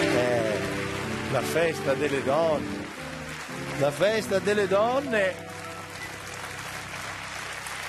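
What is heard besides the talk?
audience applause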